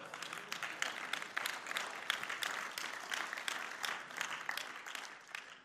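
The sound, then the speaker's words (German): An audience claps steadily for several seconds as applause given to the Lord, a dense, crackling wash of many hands at an even loudness that tapers off slightly at the end. “Da lohnt es sich fast dem Herrn Applaus geben für so etwas, gell?”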